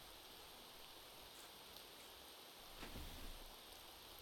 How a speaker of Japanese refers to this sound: でもさ、お兄ちゃん、今日は傘しまってくれないかな。隣座って一緒に雨に打たれてよ、お兄ちゃん。